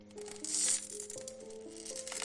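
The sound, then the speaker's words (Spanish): The wooden staircase of a house creaks in drawn-out, groaning tones that shift in pitch, with a brief rattling burst early on. No one speaks. “Es un crujido, el de la escalera de su casa.”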